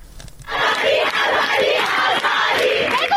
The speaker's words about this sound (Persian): فریاد اعتراض دانشجویان در ده‌ها دانشگاه ایران روز چهارشنبه به مناسبت 40 مهسا امینی، زن 22 ساله اهل سقز که در بازداشت گشت ارشاد جان باخت. تجمعاتی که تا ساعتی پیش در شب ادامه داشت، مثل اینجا در کوی دانشگاه تهران.